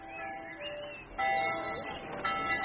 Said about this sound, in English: Listen to the bells. It's like a great festival.